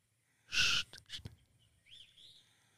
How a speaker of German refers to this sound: Pfeifen? Vogelstimmen zuhören. Ach so, ich dachte imitieren.